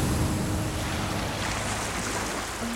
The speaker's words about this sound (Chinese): 一秒钟，大西洋岸边的海浪冲上了礁石。